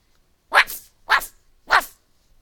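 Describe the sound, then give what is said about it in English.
A puppy barks three times in a steady rhythm, each yap short and sharp with a brief pause between, clear with no other sounds around it. “One of the puppies has gotten out of the damaged room where it was held.”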